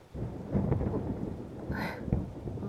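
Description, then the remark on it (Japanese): A low, rolling thunder rumble swells and lingers over steady rainfall, with a brief brighter crackle near the middle; no voices are heard. “いい雷、また鳴りましたね。”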